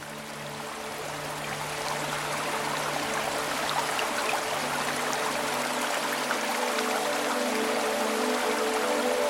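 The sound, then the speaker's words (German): A mountain stream in the Wicklow Mountains, part of a larger river system, flows steadily, its broad, bright rush of water babbling and trickling without pause, fairly loud. No voices are heard. “Der Bach ist Teil eines größeren Flusssystems, das die Wicklow Mountains durchzieht und einst genutzt wurde, um kleine Siedlungen mit frischem Wasser zu versorgen.”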